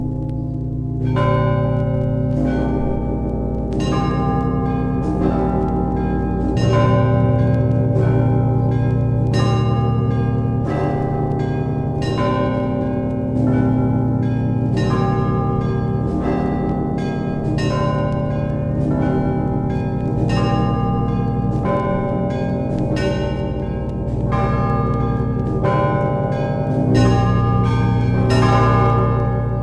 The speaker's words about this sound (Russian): Наверное, вот ростовский звон мы и послушаем. Один из классических ростовских звонов 17 века.